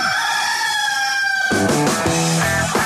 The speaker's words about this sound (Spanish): Radioactiva, la emisora de los conciertos en Colombia. Este es el gallo.